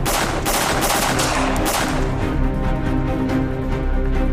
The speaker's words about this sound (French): Et là, les coups de feu ont recommencé. Oui. Donc vraiment dans le couloir.